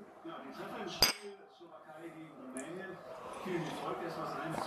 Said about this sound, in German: So, dann probiere ich auch mal den Eistee. Wollen wir anstoßen? Ja.